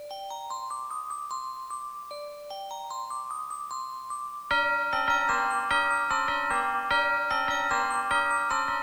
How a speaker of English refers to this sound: What's a good Christmas song? Oh, Hark How the Bells.